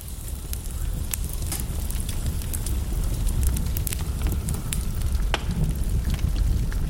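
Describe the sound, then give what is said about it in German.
A cozy wood fire in a small fireplace crackles steadily, with irregular sharp pops and snaps over a soft, continuous low roar of burning wood; no voices. “Der freundliche Mann geht zu einem kleinen Kamin, in dem ein gemütliches Feuer brennt.”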